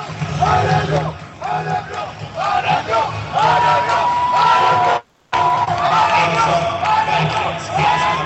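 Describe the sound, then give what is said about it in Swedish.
A home crowd at a hockey game involving Örebro cheers and chants loudly, many voices rising and falling in rhythmic waves, with a brief cut to silence partway through before the roar resumes. “Publiken börjar komma igång hemma, publiken.”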